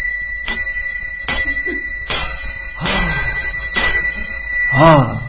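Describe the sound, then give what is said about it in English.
A bell is struck about six times at a steady, unhurried pace, each strike bright and metallic, its ringing tone sustaining and overlapping into the next, fairly loud. “The bell was ringing.”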